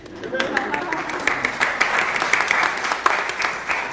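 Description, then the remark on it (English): An audience claps together, a dense, steady patter of many hands that holds at a fairly loud level for several seconds without a clear rhythm. “Okay to clap.”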